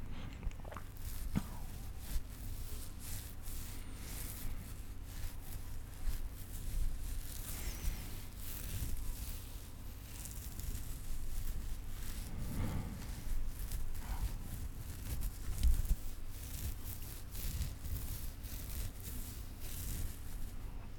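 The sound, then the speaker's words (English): Steady, crackly scratching of a very long beard, a dense run of rough bristly rasps with no speech, over a low background rumble of rain and occasional soft thunder from an ongoing storm. “So, without further ado, here's some uninterrupted beer scratching from my very, very long beard at this point.”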